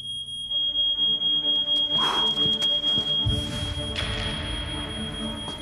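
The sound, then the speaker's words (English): A smoke alarm sounds continuously with a shrill, high-pitched pulsing beep, loud, with some low rumbling background noise underneath. “On hearing a smoke alarm, a mother would look towards her child.”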